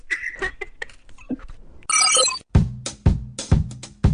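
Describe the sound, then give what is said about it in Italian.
A mobile phone rings with a melodic electronic ringtone: short bright tones, then a sustained burst and a run of rhythmic, repeating pulses, loud with no talking. “Io l'ho distratto al cellulare.”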